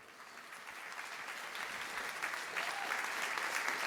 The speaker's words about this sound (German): Vielen Dank für das Gespräch. Also noch einen warmen Applaus.